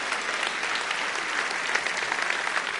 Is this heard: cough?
no